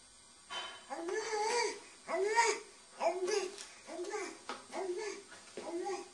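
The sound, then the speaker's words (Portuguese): A baby babbles "abá" in a series of short, rising and falling vocal bursts, about seven in quick succession, fairly loud with no adult talking. “Há uma coisa que é um facto, é que eles dizem mesmo aquilo, abá.”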